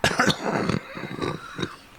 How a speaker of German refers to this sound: Das ist der zweite, dritte Huster heute am Tag.